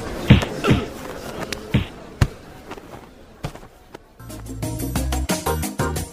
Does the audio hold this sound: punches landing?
yes